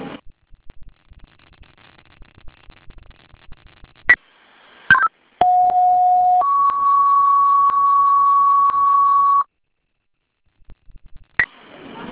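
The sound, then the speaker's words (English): Fire dispatch alert tones for the Webster Fire Department striking a second alarm assignment to 19 School Street, smoke in the building: a loud, steady lower tone for about a second, then a longer higher tone for three seconds, bracketed by radio clicks and faint static. “Chief, 41 minutes, I'll be striking a second alarm.”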